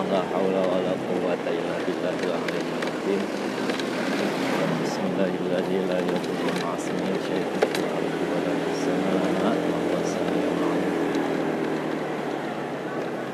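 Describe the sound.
A new motorcycle's engine runs steadily, its low drone blended with wind and road rush throughout, while people talk over the noise.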